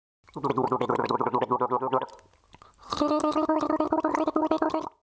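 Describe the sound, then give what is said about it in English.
Someone gargles water in the mouth to imitate the gurgling sounds of a nightingale, in two long bursts, a loud bubbling, voiced warble with a wavering pitch, separated by a brief pause. “And then they took water in their mouth to make them utter the gurgling sounds of the nightingale when they spoke to anyone, so that they might fancy themselves as nightingales.”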